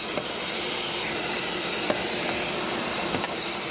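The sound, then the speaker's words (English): An attendant at a car wash vacuums a car's carpet, a loud, steady whooshing roar broken only by a few brief clicks and bumps as the nozzle moves. “Attendants can use air to clean your floor mats, or vacuum crumbs from your last fast food excursion off the carpet.”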